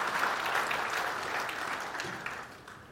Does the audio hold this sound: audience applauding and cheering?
yes